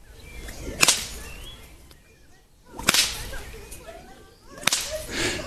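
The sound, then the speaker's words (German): A whip is swung and cracked three times during a whip-cracking lesson, each sharp snap ringing out loud at an unhurried, uneven pace, with faint whooshing and quiet ambient noise between strikes. “Ja, du musst halt zusehen, dass die Peitsche lang bleibt, ne?”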